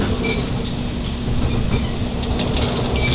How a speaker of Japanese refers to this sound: 同じホーム12番乗り場、関西空港行き特急はるか号、紀勢線白浜方面、特急黒潮号は着きました。